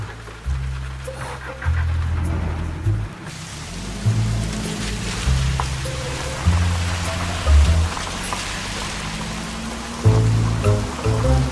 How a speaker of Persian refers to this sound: بارون شدیده.